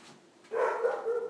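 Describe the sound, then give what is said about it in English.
After a brief quiet moment, a female dog lets out loud, excited barking, a drawn-out bark or two running together with no one talking. “I'm going to kill your dog. Yeah, I'm sorry. She's going crazy.”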